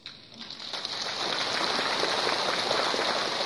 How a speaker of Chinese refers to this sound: 我呢想呢，因为呢听你们的掌声，我就知道你们对真正的佛法你们会不是太懂的